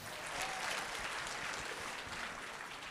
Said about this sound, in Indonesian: Wah, luar biasa. Berikan tepukan.